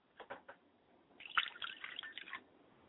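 A glass of water being poured out as a libation, starting with a few soft drips and then a short, uneven splashing stream that trickles and spatters for about a second before stopping. No voices.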